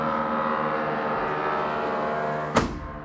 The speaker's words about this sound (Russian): Все равно слышно. Сейчас мы здесь сдохнем. Без кондиционера и с закрытыми дверями. Не, ну совсем они там, кукурузники, совсем громко работают.